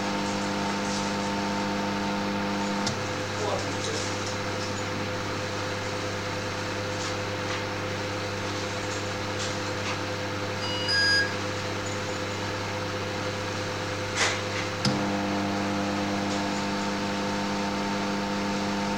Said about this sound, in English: So as you can hear, the microwave is alternating between on, full, and off. See, it's off at the moment. You'll hear it come back on in a minute.